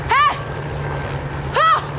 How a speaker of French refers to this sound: Oh. Oh. Un hélicoptère. Je suis sauvée.